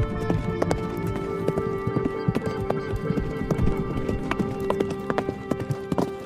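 Steady clip-clop of horse hooves on a hard surface, an unhurried rhythm of sharp knocks, with a low background rumble and no talking.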